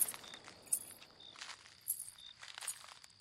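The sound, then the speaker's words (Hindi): Soft footsteps of someone wearing anklets (payal) crunch and rustle through dry leaves in uneven bursts, with bright jingling of the anklets, over a steady faint high-pitched cricket hum. “चिड़ियों की चहचहाहट, झिंगरों की आवाज और रह रहे के सूखे पत्तों पे पायल पहने किसी के चलने की आवाज।”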